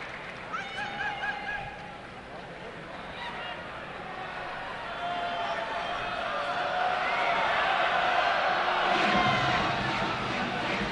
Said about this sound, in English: But the arena was filled fairly quickly. And you can hear the reaction of the crowd as things are warmed up awaiting the arrival of the president.